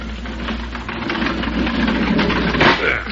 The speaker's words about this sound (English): let's slide open the door and see what's happened